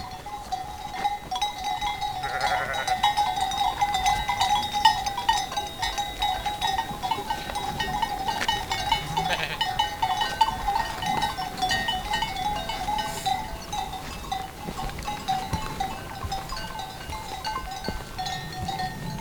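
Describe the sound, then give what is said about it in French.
A flock of ewes waking beneath the Viscos peak bleats intermittently as the animals stir and move in single file, with a few calls rising above a continuous tinkling of bells and soft outdoor background. No one speaks. “Les brebis bougent plutôt en file indienne.”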